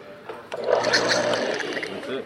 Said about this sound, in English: That spurt of water is the sound of success. It's a matter of putting it all together again.